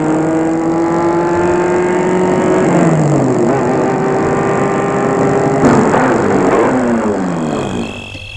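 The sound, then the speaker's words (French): A car engine drones loudly and steadily, its pitch climbing and dropping through gear shifts as the vehicle drives out of Paris and accelerates into the countryside, then eases off slightly at the end. No one speaks. “La voiture s'est arrêtée en rase campagne.”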